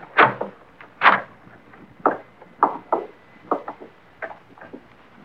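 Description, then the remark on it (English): A door knob is worked and a door pushed open by police: a run of sharp wooden clunks and rattles at an uneven pace, with no voices. “Lights come in front of the door. Try the knob.”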